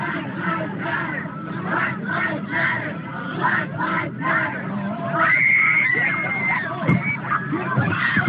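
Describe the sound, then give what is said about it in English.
A large crowd of marching students chants in a rhythmic, pulsing cadence, then the chanting breaks into loud, sustained screams and frantic shouting amid a dense clamor as a car rolls through the crowd at low speed. “That's from a video obtained by WILL, where Chance turned to screams as a car rolls through a crowd of students at low speed.”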